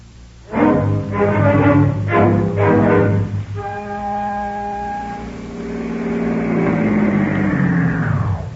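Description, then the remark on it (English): A bakery truck engine revs up in several quick bursts, then settles into a steady, rising drone as it drives along with a man getting a ride on it, fairly loud with no talking. “Look, he's getting a ride on a bakery truck.”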